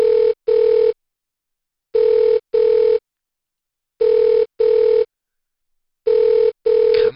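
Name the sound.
phone call ringing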